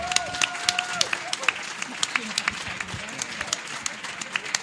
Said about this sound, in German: Und wir möchten die alle mal unter tosendem Applaus auf die Bühne bitten.